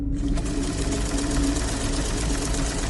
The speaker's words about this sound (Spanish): Subió las escaleras con miedo. Se quedó a la mitad, tomó valor, la máquina de coser seguía sonando.